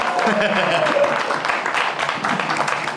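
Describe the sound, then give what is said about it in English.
A crowd cheers and applauds steadily for three seconds, a dense, loud wash of clapping with excited voices and whoops mixed in, holding constant without pause, cheering to bring guest Guy Branum out on stage in Brea. “Everybody cheer to get him to come out on stage.”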